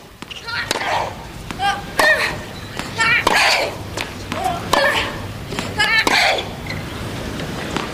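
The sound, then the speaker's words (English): Tennis players Monica Sellers and Jennifer Capriati grunt loudly with each shot in their match: sharp racket-on-ball cracks, each met by a high, strained shriek, trading back and forth at a steady rally pace, about eight or nine hits in all. “Sounds like they're sneezing, Neil, but they're playing tennis.”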